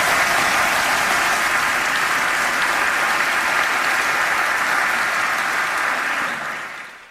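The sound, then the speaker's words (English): Sustained applause from an audience for Chris and Dr. Matei, a dense, steady wash of clapping for about six seconds before it fades out at the end, with no one speaking over it. “Let's first of all hear it for Chris and Dr. Matei.”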